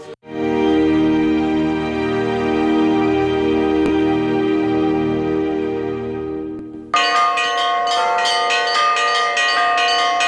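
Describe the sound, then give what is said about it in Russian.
Church bells of the Dormition Cathedral in Penza ring loudly and continuously on the feast of the Dormition, calling Orthodox believers to the service: a big low bell droning with overlapping tones, then a brighter rhythmic peal of smaller bells takes over near the end. No voices. “В день Успения Пресвятой Богородицы колокольный звон созывает православных на богослужение в Успенский кафедральный собор Пензы.”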